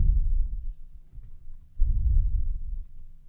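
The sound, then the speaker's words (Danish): A few muffled keyboard keystrokes typing an asterisk and a space to make a bullet list in MediaWiki, in two short clusters separated by a brief pause, fairly soft, with no one speaking. “Så her vil jeg lave en punktopstilling, og det gør jeg ganske enkelt ved at lave en stjerne og et mellemrum.”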